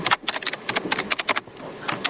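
Fast, uneven clicking of someone typing on a computer keyboard, a steady run of sharp keystrokes with a brief pause near the end and no voices.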